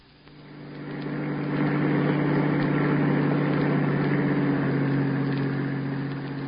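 A bus engine runs with a steady, droning low rumble, rising quickly at the start and then holding constant and fairly loud throughout, with no voices.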